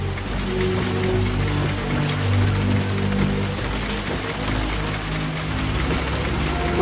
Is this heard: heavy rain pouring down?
yes